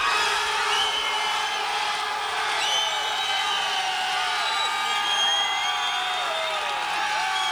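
A crowd claps and cheers steadily throughout to vote for a contestant, with shrill whistles and whoops rising and sliding over a dense, continuous wash of applause that stays loud the whole time.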